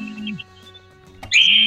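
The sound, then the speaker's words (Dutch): A mobile phone rings for an incoming call with a short electronic tone, a brief pause, then a louder, sustained chirpy ring that continues. The ringtone is clear, with no talking over it. “Hoor jij die telefoon ook of niet?”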